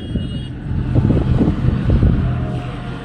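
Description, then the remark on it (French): Heavy tractor engines rumble with a steady low drone, swelling slightly as the tractors roll past one after another in a procession, with no voices. “Bon bah là on est en train d'entendre le bruit des tracteurs qui arrivent.”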